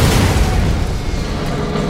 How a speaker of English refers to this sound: the armory car blew up in a brilliant white flash. The explosion cut the wagon in two.